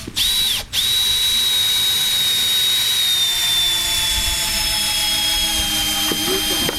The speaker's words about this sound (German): Hast du das Gefühl, die Bauarbeiten laufen so weit, wie es soll? Ja, sie laufen hervorragend. Sie laufen, wie Bauarbeiten laufen. Laut.